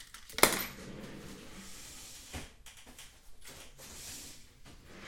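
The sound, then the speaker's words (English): Someone rummages through a desk drawer: a sharp clunk at the start, then scattered light clinks, rattles and shuffling of small objects, fairly quiet, with no talking. “Hold on, I'm going to check one more drawer.”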